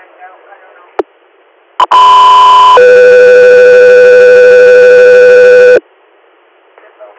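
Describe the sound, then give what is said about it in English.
Two sustained electronic radio dispatch alert tones for Echo 3 Air play back to back, a brief high pitch followed by a longer lower one, loud and steady for about four seconds, with faint radio chatter before and after. “Echo 3 Air, stand by for tones.”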